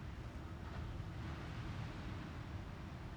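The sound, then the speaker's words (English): A steady, full-bodied wash of ocean surf rolling onto the shore, a constant low rumble with hissing spray and no distinct breaks in the short stretch, with no voices. “Feel the rhythm of the waves.”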